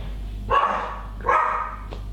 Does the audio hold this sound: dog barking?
yes